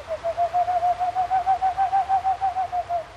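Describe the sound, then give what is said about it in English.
A person imitates boreal and eastern screech owl calls: a steady, rapid run of about twenty soft, hooting whistle pulses on one pitch, clear, with no talking. “making the calls of boreal and eastern screech owls.”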